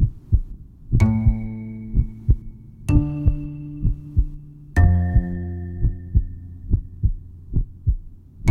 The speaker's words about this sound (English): Heartbeat.